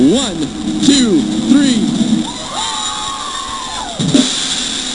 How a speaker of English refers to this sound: All right, when I count to three, our Greeley crowd who came all the way from Greeley, you guys get to actually make noise. Big one, two, three.